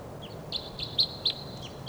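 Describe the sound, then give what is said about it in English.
Wild birds call with a series of high, thin chirps, four or five short notes spaced about a quarter second apart, over faint outdoor background noise. “There's some wild type 2 birds around here, but I don't see them.”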